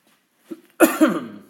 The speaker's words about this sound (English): I also think I managed to get sick over these past couple days, but so if I'm coughing or whatever, forgive me.